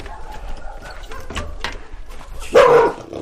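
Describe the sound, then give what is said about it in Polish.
A dog lets out a single loud, sharp bark near the end, preceded by a few fainter yips and scuffling noises, as someone tells the dogs to calm down. “Pieski, uspokój się”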